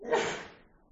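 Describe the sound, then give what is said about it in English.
A single sneeze, a short breathy burst that peaks quickly and then trails off into quiet, moderately soft. “Gesundheit.”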